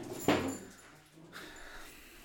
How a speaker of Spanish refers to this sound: Nunca hacen esto y ahorita están peleando. Mira, déjenles muestro ahí. ¿Cómo están? Pueden ver a los perritos peleando. Los ¡ey! Perritos, ya, ya.